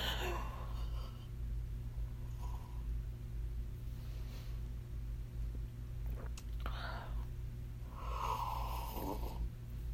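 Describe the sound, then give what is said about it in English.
A few soft sips from a drink, with breathy slurping inhales in short bursts and quiet pauses between them, over a steady low hum. No one speaks. “Gonna take another sip while I try not to cry.”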